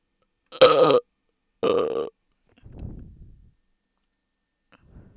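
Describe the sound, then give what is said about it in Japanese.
Two loud, drawn-out wet burps in quick succession, followed by a softer, lower rumbling belch and a faint trailing sound, with no talking. “こんなゲロみたいなゲップでも興奮するんだ君。”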